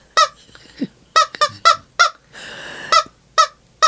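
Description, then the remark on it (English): A squeezed rubber chicken toy squawks in a rapid series of loud, nasal, honking squeaks, about nine bursts with a short wheezy hiss between them, in an uneven rhythm. “You're a good chicken squeezer.”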